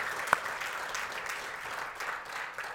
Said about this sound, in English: Can you join me in giving God a hand clap of praise? Because He is an on-time God.